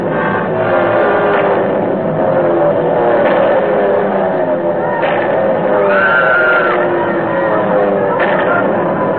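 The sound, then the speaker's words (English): German warplanes roar as they drop out of the sky and dive low toward a road and a bus, their engines a loud, continuous drone whose pitch sweeps and shifts as they pass, with faint clatter and muffled voices buried beneath. “And then the planes came. German planes. They dropped out of the sky, swarmed down toward the road and the bus.”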